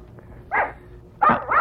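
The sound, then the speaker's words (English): An English Cocker Spaniel named Jessica barks sharply three times, one single bark followed by a quick pair, loud against a quiet background with no talking. “Well, that's a damn barking dog.”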